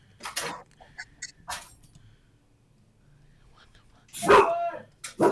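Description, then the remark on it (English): A dog barks a few times in short, sharp bursts, one early, one shortly after, and a louder, fuller bark near the end, separated by quiet gaps over a low background hum. “My dog ran away.”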